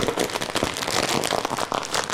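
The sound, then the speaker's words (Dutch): A sturdy bag of kimchi-flavoured crisps is opened with dense, crackling crinkles of plastic that rustle steadily for a couple of seconds, bright and fairly loud, with no voices. “Zal ik hem maar openmaken? Ja joh, want we hebben de zak al besproken, denk ik.”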